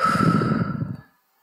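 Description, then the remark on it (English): A deep breath drawn in and let out, loud, a breathy rush lasting about a second before falling into silence. No one speaks. “You're breathing in. You're breathing out.”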